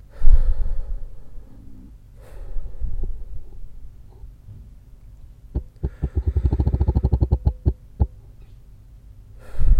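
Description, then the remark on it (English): Slow breathing during a guided breathing exercise gives way to a quick burst of a dozen or so sharp buzzing taps from a smartwatch vibrating on the wrist, held close to the microphone, followed by a final separate tap and another breath. “Now I'm going to hold it closer to the mic, so you hopefully can hear the vibrations.”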